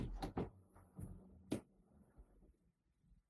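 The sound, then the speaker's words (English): A person opens a door to let their cat out: a few sharp latch clicks and knocks in the first two seconds, then faint shuffling fading into quiet. “He'll just keep rattling the door if I don't let him out.”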